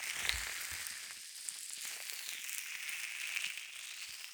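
fizzing

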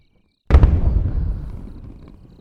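fireworks exploding

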